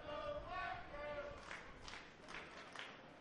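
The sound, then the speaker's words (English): A crowd at a baseball game chants "Let's Go Black Bears" in unison, many voices holding sung notes, followed by a steady run of rhythmic claps or stomps under the continuing roar. “Chant of Let's Go Black Bears goes up amongst the crowd.”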